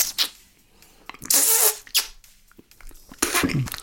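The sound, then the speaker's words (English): A voice imitates a door straining to open, making squeaky, wet, strained noises in several bursts: a short squeak, a long harsh hiss-like squeal, then a final rising creaky squeal. “Yeah, I can tell you what the noise of the door trying to open sounds like.”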